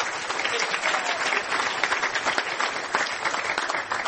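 Steady audience applause fills the whole stretch, a dense, even patter of many hands clapping at once with no voices rising above it.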